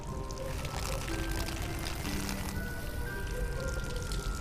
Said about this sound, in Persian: نریز من گلدون آب میدم الان موقعش نیست گلدون شب آب میدم